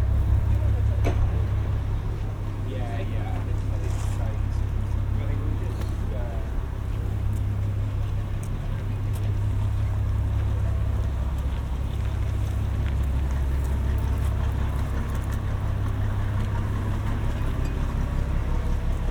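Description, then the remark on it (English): Working harbour ambience: a steady low rumble of boat engines under a constant hiss of water or light rain, with occasional clicks and knocks and faint, indistinct voices. “so bear with me as we just capture some of the final sounds of the harbour.”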